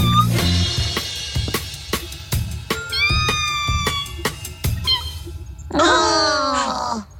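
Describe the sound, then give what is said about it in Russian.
A kitten in a barrel being carried out to sea meows in a few high, wavering cries, the longest near the end, over busy background music with sharp percussive hits. “Котенка в лочонке несет прямо в море.”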